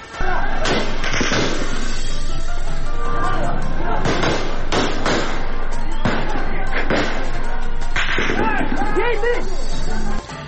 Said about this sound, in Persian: تظاهرات امروز زنان در کابل با فیرهای هوایی متفرق شد.